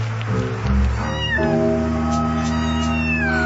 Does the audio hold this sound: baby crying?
no